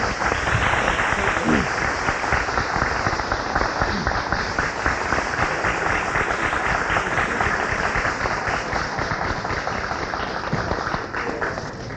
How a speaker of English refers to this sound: After that applause, brothers and sisters